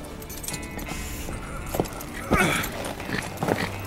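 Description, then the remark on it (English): Horse hooves clop unevenly against a busy, noisy background, a handful of sharp knocks standing out at irregular intervals, moderately loud. “I told you all horses were a bad idea.”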